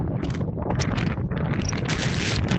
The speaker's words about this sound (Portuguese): E o que escoitan é a forza do vento na costa. Superaba a pasada madrugada os 141 km por hora en Penedo do Galo, en Viveiro. Chegou a 107 km por hora en Burela. No Xistral, en Muras, chegou a 137 km por hora.